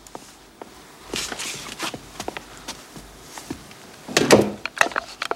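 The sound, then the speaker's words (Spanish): A run of soft, uneven footsteps on a hard floor as a woman walks into her bedroom, followed by a louder wooden thud and rattle as she shuts the bedroom door, then a few more light taps. “Entra en su alcoba y cierra la puerta.”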